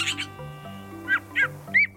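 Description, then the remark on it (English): Canada jay calls: a rough burst of chirps, then three short, separate whistled calls at a bright mid-high pitch, each clear and fairly loud over a low, steady tonal background. “The very first bird you might see is a Canada jay as it boldly swoops down into your camp.”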